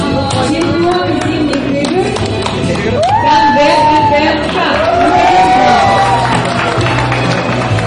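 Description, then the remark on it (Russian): A loud, sustained crowd roar of cheering and clapping for the winners at an award ceremony fills the whole stretch, with individual whoops and shouts rising above the din, dense throughout. “Буря эмоций и овации – это, конечно же, все для победителей”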